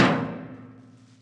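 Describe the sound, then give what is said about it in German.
A castle door slams shut with a heavy crash, a single loud bang, followed by a low booming resonance that fades away over about a second. “Krachend fällt die Tür ins Schloss.”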